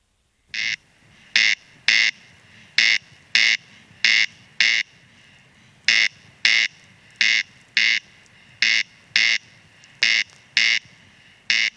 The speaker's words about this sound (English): Let's have a listen to the corncrake. You couldn't mistake the corncrake for any other bird. Creks, creks.